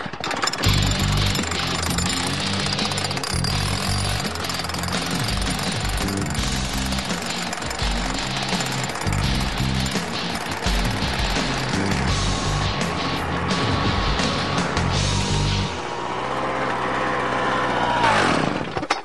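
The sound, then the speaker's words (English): A power drill bores one of many holes, loud and steady, with a rapid hammering rhythm running throughout. Near the end the motor's pitch shifts and whines before the drilling stops. “You want to drill one?”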